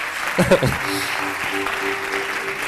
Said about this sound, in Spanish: Bueno, pues aquí tenemos la …. Un aplauso para ellos.